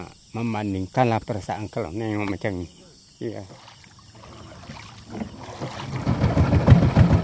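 A person speaks briefly, then after a quiet gap a small boat's outboard motor rumbles in, growing steadily louder and closer over water, with a faint steady insect chirr in the background.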